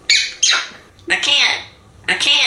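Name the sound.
parrot squawking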